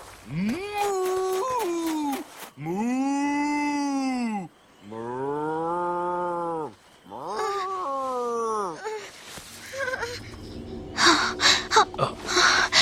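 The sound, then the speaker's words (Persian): A person imitates an angry cow with a series of long, loud, drawn-out moos and groans, several in a row, followed by breathy snorts and rustling noise at the end. “خوبه، حالا تنوع بده. یه گاوه عصبانی باش.”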